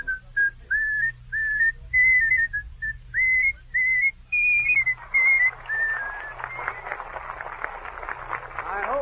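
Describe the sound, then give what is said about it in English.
A band member whistles a tune in a string of clear, bright notes at moderate volume, then the melody gives way to a burst of applause and crowd noise, with a low hum underneath. “Can you whistle it?”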